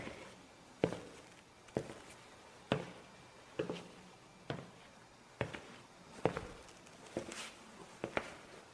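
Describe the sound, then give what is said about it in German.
Ten steady footsteps plod forward toward the Moloch one after another at an even walking pace, each step a crisp thud over faint background hiss, with no voices. “Also lasst uns nun 10 Schritte auf den Moloch zumachen.”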